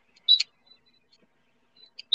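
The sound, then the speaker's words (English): Two short, shrill electronic beeps separated by a pause of about two seconds, with a few faint, thin chirps in between and no voices. “Sorry. I know you love the beeping sound.”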